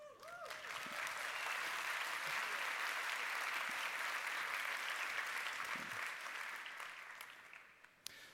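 Sustained audience applause, a dense steady wash of many hands clapping at even loudness for about seven seconds before tapering off, with a faint voice briefly heard at the start.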